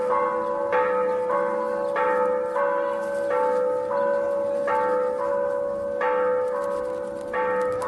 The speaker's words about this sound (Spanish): En punto de las 13 horas, repicaron las campanas de la antigua Basílica de Guadalupe.